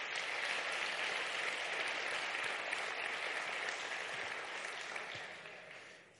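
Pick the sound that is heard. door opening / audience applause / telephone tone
audience applause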